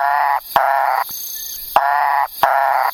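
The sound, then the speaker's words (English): A Macaya burrowing frog gives four loud, harsh, buzzy calls in a steady rhythm, each about half a second long, separated by brief pauses with a faint high hiss behind them. “Okay, yeah, we also found the Macaya burrowing frog.”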